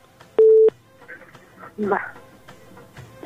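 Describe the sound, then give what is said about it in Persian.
A single short, loud telephone line tone after a phone call drops on its own, a steady electronic beep that cuts off abruptly, followed by faint muffled voices and low background noise. “فکر میکنم خود به خود تلفنشان قطع شد.”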